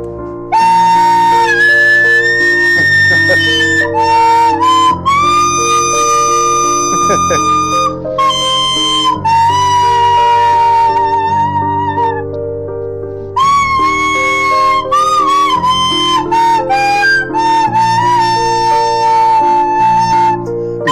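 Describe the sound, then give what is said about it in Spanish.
A flute plays a sustained, singing melody with held notes and gentle slides, carried over a steady piano backing track whose chords change every few seconds; both are loud and continuous throughout. “Suena la base de piano y luego entro yo con la flauta, que mira qué bonito queda.”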